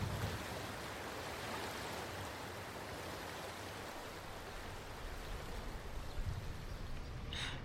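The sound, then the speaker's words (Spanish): Fast, rushing floodwater roars at night in a steady, dense wash of noise, loud, with no letup and no voices. “El agua pasa feroz, rápida.”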